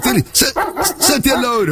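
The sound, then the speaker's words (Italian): A person mimics a small dog yapping, imitating barking heard through the night, making a quick run of about half a dozen sharp bark-like yelps in steady rhythm, with no real dog present. “E allora chi è che abbaia? Sì, abbia pazienza, io sento abbaiare in questo modo.”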